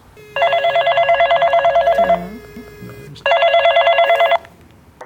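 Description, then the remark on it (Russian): A real telephone rings twice, each ring a loud, rapidly trilling electronic burst lasting one to two seconds, with a short quiet gap between them and no one talking. “Это настоящая модель телефона? Настоящий телефон.”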